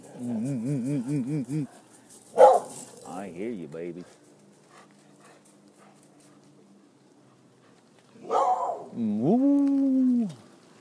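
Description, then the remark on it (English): Puppies whimper and whine in high, wavering bursts, with a short sharp yelp or bark between them. A person speaks softly in between the cries. “Oh, hello, the puppies. Yeah, there's the puppies.”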